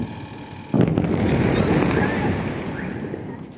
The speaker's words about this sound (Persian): بامداد جمعه 23 خرداد که مناطق مختلف ایران با صدای بمب و انفجار بیدار شدند.